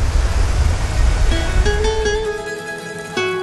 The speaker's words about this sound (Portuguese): E ela fica dentro de uma paisagem grandiosa, rodeada por montanhas e cortada por um rio. Aliás, o barulho da água é o que mais quebra o silêncio por aqui.